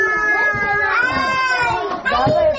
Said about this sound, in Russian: Подходя к садику-самолету, на меня обрушился радостный визг детей, вполне успешно заменивший рев двигателей.